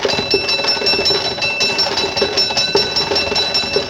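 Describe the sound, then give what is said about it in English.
The bell of a horse-drawn fire engine of the Norwich Union Boys Firehouse, pulled by a team of horses going to a fire in Manchester, England, in 1826, clangs rapidly and continuously, its bright ringing tone sustained throughout, over a steady rumbling clatter with no voices. “A team of horses pulling the fire engine of the Norwich Union Boys Firehouse.”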